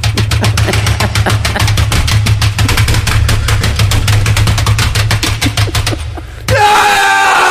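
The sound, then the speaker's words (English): Rapid, loud keyboard typing hammers away in a dense, steady clatter of keystrokes over a low hum for about six seconds as someone looks things up on the internet in the morning, then stops abruptly as a different sound takes over. “Cue Thunder Typing.”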